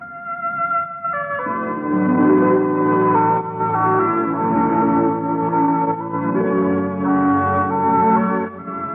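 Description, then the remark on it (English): Radio network chimes ring out in a sustained, overlapping run of bright bell-like tones, loud, each note lingering into the next with no voices present. “Kitchens ring with happy chimes when tuned to NBC.”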